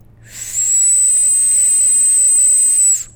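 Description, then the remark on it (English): A single high, thin whistle made by sucking air in through pursed lips with a small hole at the front, held steady for about two and a half seconds, wrapped in a loud airy hiss of sucked-in breath, with no talking and a faint low hum beneath. “So, and you make that sound by inhaling. Pursing your lips, having a little small hole at the front, and just sucking in.”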